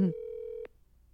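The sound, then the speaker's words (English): A single steady electronic telephone tone holds for about half a second, then cuts off with a sharp click, leaving faint background hiss. No one speaks. “So you can see how we answer the phone every time.”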